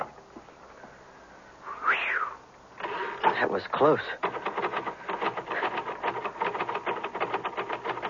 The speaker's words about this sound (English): Well, sounds like you finally got your keys unstuck.